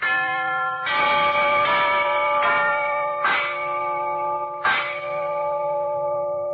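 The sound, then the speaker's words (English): A set of brass door chimes, set off by pressing a button in a studio, rings out in a sequence of about five struck notes, each tone sustaining and overlapping the next in a bright, resonant wash, fairly loud, with no talking. “we want you to listen to a set of these genuine brass door chimes”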